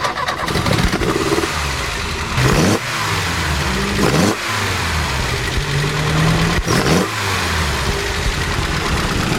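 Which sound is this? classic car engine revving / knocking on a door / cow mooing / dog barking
classic car engine revving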